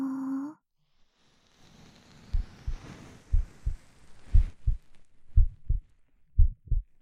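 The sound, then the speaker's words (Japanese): A muffled heartbeat, a mother's heartbeat heard with an ear pressed to her chest, thumps in steady paired beats, low and soft, over a faint rustling hiss; a brief tone sounds at the very start before the beating begins. “ママの心臓の音する？”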